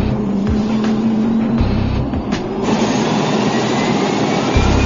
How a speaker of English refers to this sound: We're just waiting for it to fire. It's just spinning on the air right now. The starter has the prop spinning, but the engine still hasn't fired.